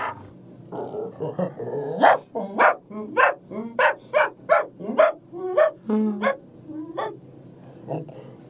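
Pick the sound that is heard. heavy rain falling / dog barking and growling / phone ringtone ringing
dog barking and growling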